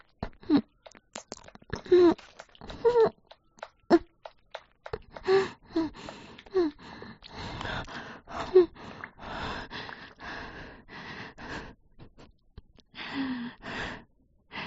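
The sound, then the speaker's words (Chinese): Heavy, ragged panting, a long run of quick breaths with occasional voiced gasps and sighs, uneven in rhythm as if catching breath after exertion. “学的挺快的嘛，现在喘气不是很自如。”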